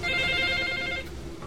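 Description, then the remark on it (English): A telephone at the Yonghwa-ru Chinese takeout and delivery restaurant in Seoul, South Korea, rings around lunchtime with an incoming order call, a steady, bright electronic trill of stacked high tones for about a second, then cuts off, leaving a low background murmur. “Around lunchtime, calls start coming in to the Yonghwa-ru Chinese restaurant.”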